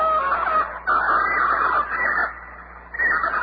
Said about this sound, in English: Well, it's just damn birds. So I guess so. Get those birds out of here. People sleep with that kind of racket going on.